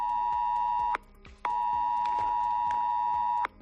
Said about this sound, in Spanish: Eran las 2 y 25 de la tarde del domingo cuando los móviles de la Comunidad de Madrid empezaron a emitir esa alarma ante la mirada perpleja de todos, que no sabíamos muy bien qué hacer